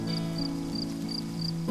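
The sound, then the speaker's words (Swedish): Wind blowing steadily through a forest, a low, continuous moaning drone with faint insect-like chirps pulsing high above it at a regular pace. No voices. “Det är bara vinden som blåser i skogen, säger Bubblan.”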